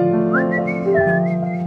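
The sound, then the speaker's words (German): A person whistles a slow, sliding melody of a 1980s rock ballad, slightly wrongly, clear, with notes gliding smoothly up and down over a steady tonal background and no talking. “Der war falsch gepfiffen, aber.”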